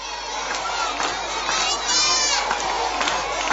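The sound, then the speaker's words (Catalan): A crowd of schoolchildren at a protest demonstration in the Escolapi school courtyard shouting "Save the Earth" together in loud, continuous unison chants, their voices layered and overlapping. “L'activitat a l'Escolapi s'ha tancat amb una manifestació amb crits de Salvem la Terra pel pati del centre.”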